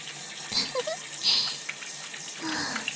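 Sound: shower water spraying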